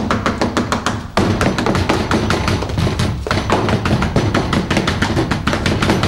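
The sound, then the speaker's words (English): Loud, insistent knocking on a door, a rapid run of sharp thuds repeating steadily for several seconds with only a brief pause, forceful, with no voices. “And then it has Graham knocking on the door.”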